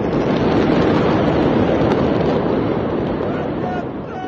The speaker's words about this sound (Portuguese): Você vai ouvir agora um dos registros feitos por celular à distância. É possível ouvir uma primeira explosão.